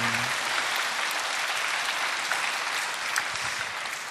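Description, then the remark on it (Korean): A church audience gives a round of thankful applause, many hands clapping in a dense, continuous wash of crisp claps that holds at an even level throughout, with no speech over it. “우리 국내 선교에 우리 참여한 청년들 그리고 우리 젊은이 목장의 국내 선교를 위해서 기도해 주신 우리 모든 분들에게 우리 감사의 박수 한번 할까요?”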